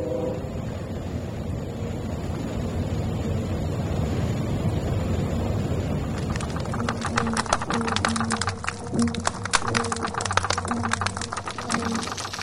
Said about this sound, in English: So, what is the sound? Like a cackling of a chicken. It goes, it's a whole series of pulses, higher frequency pulses for the silver perch.